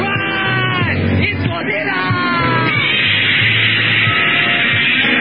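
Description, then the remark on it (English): Godzilla's roar, loud and sustained for about five seconds: a rasping, bellowing cry whose pitch swoops up and down over a rumbling low end, with no talking. “Godzilla! You like it? Godzilla's back?”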